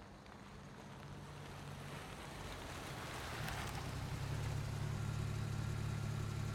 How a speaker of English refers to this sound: I'll start up the car now since it looks like you won't be long.